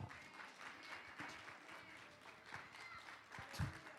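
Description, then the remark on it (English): An audience stands and claps their hands for the Lord in sustained, dense applause, a steady wash of many overlapping claps, with a few sharper, louder claps and faint voices mixed in. “Everybody stand to your feet and give the Lord a hand clap.”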